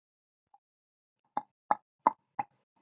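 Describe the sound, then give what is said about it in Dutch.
A faint single tap, then four hollow, evenly spaced knocks in quick succession, each short and fairly loud with a mid-pitched, popping tone. No one speaks. “Pok, pok, pok, pok, pok, pok, pok, pok. Wat was dat voor geklop?”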